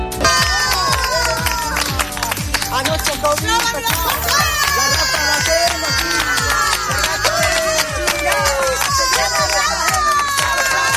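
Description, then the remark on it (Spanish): A loud, dense festival crowd cheers without pause, children's high-pitched shouts and squeals rising above the roar, with scattered claps and rhythmic thumps running through the whole stretch. “Esta es una fiesta.”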